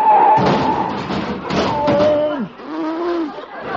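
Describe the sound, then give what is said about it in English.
A car crash effect as an Essex car runs into the car in front after missing a signal change, breaking its headlight: a couple of heavy thumps and crunches, followed by wavering, whining tones that slide down in pitch, moderately loud with no talking. “Darn it, I ran right into him.”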